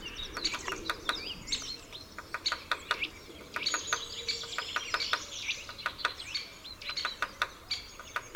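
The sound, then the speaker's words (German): A European robin perched on a twig in autumn sings a thin, trilling song of high warbles and quick sweeping notes, steady and unhurried, mixed with sharp ticking chirps over a quiet outdoor background. “Ein Rotkehlchen trillert ruhig, aber unermüdlich seine melancholische Melodie.”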